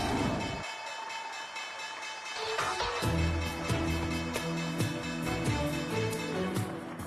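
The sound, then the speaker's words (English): A stock exchange closing bell rings to end the day's trading session, in rapid, steady strokes, a bright metallic clanging that sustains for several seconds over a constant wash of background crowd noise. “we're going to go to the closing bell, and here it is.”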